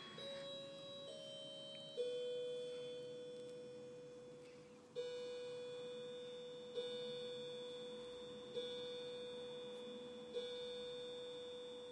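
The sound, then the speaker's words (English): A chiming battery clock chimes in a series of sustained, bell-like tones, each struck note ringing and slowly decaying before the next, about six strikes spaced a couple of seconds apart, heard in the distance. “Is a chiming battery clock.”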